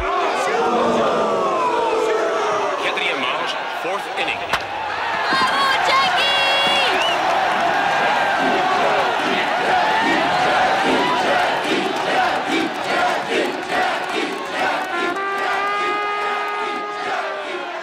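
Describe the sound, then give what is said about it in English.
A large stadium crowd of Montrealers roars and cheers steadily at a Montreal Royals baseball game as Jackie Robinson comes up to bat, loud and dense, with individual shouts and whistles rising out of the sustained din. “Record numbers of cheering Montrealers helped Jackie Robinson break baseball's color bar that year.”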